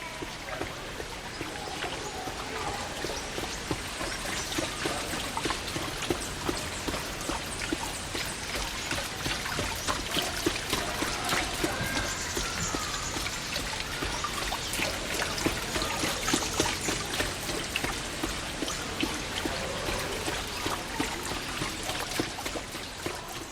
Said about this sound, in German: Das beste Mittel, unerwünschte Klänge zu maskieren, ist seit Jahrtausenden bekannt, der Klang von Wasser.